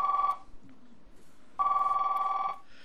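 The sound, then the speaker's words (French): A telephone ringback tone heard down the line as an outgoing call is placed: a steady buzzing ring cuts off, pauses briefly, then sounds again for about a second, moderately loud with a faint background hiss. “Donnez-moi donc le téléphone.”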